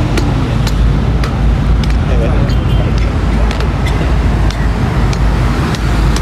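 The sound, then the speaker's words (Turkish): A number 22 bus to Bebek pulls up at a busy roadside stop, its low engine rumble steady under loud, continuous traffic noise, with sharp clicks and indistinct voices mixed in. “Sahilden geçen bir otobüs gelince haber verir misiniz? Evet. Bebek. Şimdi geldi.”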